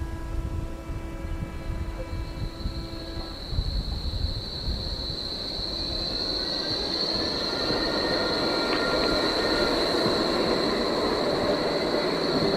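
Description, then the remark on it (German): A Bombardier Flexity tram rolls by in Berlin, its wheels squealing in a long, high, steady screech over a continuous low rumble, with a humming electric motor tone at the start. No one speaks. “Es hört sich wie Berlin an. Und jetzt noch bitte... Das ist Flexi.”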